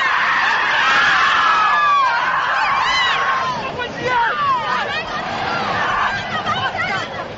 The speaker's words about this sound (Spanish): Así sonaban los gritos de las campeonas de la Copa de Su Majestad la Reina.